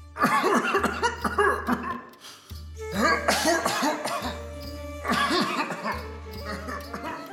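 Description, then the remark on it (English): King Dasharatha coughs in repeated harsh bursts echoing through the palace halls, three clustered fits spaced a couple of seconds apart, loud, with a low steady drone underneath. “Night after night, Rama would hear his father's coughs echoing through the halls.”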